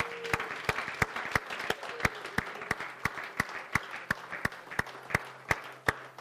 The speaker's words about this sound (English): Guys, let's give God a hand clap of praise this morning. Amen?